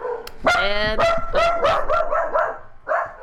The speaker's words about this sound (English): And I'm dog sitting and there's a whole bunch of dogs.